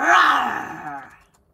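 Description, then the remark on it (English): A person lets out a single loud, drawn-out imitation roar, a rough, strained growl of the voice that starts strong and fades away over about a second. “I like the idea of a roar, some Goldie roar.”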